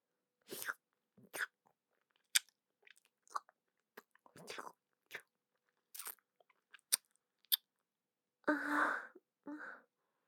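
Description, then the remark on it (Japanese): Wet kissing sounds: a scattered run of short, moist smacks and lip clicks at an irregular pace, ending with two longer breathy exhales. No one speaks. “まず、キスからでいいかしら？”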